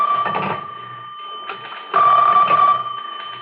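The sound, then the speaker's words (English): A special telephone's bell rings in two long, insistent bursts with a short gap between them, loud, its steady metallic tone buzzing over a rattling clatter. “Inspector, that's a special phone.”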